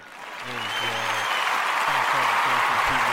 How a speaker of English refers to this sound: Hand clap of praise. That's what's up.